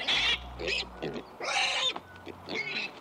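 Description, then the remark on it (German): A series of calls from piglets, with several loud, harsh squeals and shorter grunting sounds alternating in an irregular rhythm, with no talking. “Auch ohne viel Technik lässt sich bei diesen Schweinchen erkennen, welche Emotionen gerade durch ihren Körper gehen.”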